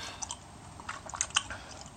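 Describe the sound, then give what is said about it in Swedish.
Wet gum chewing with a series of sticky smacks and small clicks, irregular and fairly quiet, with no talking. “Jag gillar när det smackar på tuggummi.”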